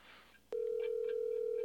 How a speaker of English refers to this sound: It's the phone. It's the fucking phone, bitch.